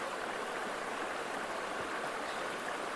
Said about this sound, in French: Il est 8h54. On est à la forêt Waro, au secteur du pont suspendu. Puis là... il fait gris. Là, il pleut.